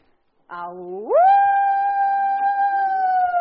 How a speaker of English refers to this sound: Good, guys, it's a coyote on his hind legs.